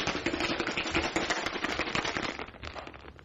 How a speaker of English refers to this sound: That's it, and I've just got that in a shaker with a bit of ice. And you need to really, really give it a good cold shake.